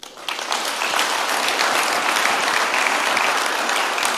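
A crowd breaks into sustained applause, many hands clapping in a dense, steady wash that starts abruptly and holds at a loud, even level with no voices over it.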